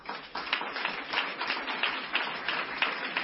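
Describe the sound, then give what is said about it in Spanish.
Steady applause from an audience, many hands clapping in a dense, continuous patter with small surges, no voices, lasting the whole few seconds. The applause is dedicated to Félix Rodríguez de la Fuente. “Este aplauso para él, porque seguramente nos estará viendo.”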